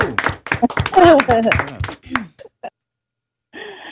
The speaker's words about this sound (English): Let's give a hand clap.